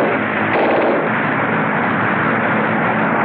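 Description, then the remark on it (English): Loud, continuous rattle of gunfire from John Cabal's biplane with an uncovered cockpit as it pursues and fires at another, whiter plane, blended with a dense engine roar, filling the whole stretch without pause and with no voices. “John Cabal is the pursuer, firing at the other plane.”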